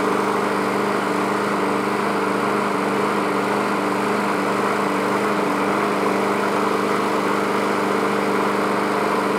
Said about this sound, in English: Now, should we maybe stand with the front of the mower pointed more toward the uphill side so it'll go more toward the engine? There you go. That way it'll get a good empty out.